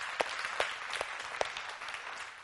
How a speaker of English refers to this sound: God, the very God-man, gave his life, and he didn't die as our martyr, but he died as our redeemer. And that's what we're going to look at this morning. Isaiah, yeah, we can clap about that.